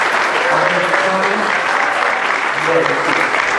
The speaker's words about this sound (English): Could we have a round of applause for our Thomas?